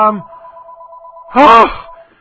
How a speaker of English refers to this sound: Ignore the phone in the background, folks. No one's here to pick it up, and I'm not going to pick it up.